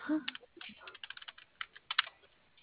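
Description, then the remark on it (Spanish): Rapid, irregular keystrokes clatter on a computer keyboard, a steady flurry of light clicks with brief pauses between bursts, fairly quiet. “¿Te prende el teclado de la caja?”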